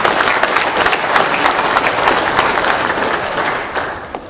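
Sustained applause from an audience giving a round of applause to thank a man, dense and steady clapping at a fairly loud level, then gradually thinning and fading toward the end.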